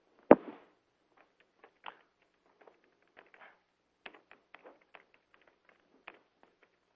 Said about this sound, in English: Wow, that keyboard is burning up.